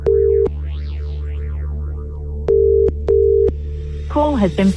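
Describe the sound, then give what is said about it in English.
A telephone ringback tone of an outgoing call to a randomly selected number purrs in short double rings, a steady mid-pitched hum pulsing twice over a sweeping electronic backdrop, before a voice briefly comes on the line at the end as the call is forwarded to voicemail. “Let's make this phone call.”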